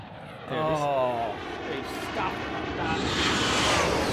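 A chopper sound effect: an aircraft flying overhead, its engine drone swelling from a low hum into a steady, loud rushing roar that builds toward the end and fills the whole clip.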